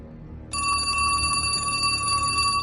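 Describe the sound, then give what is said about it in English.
A telephone bell rings loudly and continuously, starting suddenly after a brief low rumble and sustaining a bright, metallic trill with no one speaking. “He answers the phone.”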